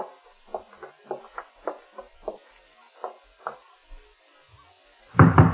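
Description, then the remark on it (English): A series of firm, sharp, stern knocks rap on a ground-floor apartment door in quick clusters, then slow to a few spaced raps before a burst of louder noise cuts in at the end. No one speaks. “Oh, the way you knock gives me the shakes, Nick. So stern and official.”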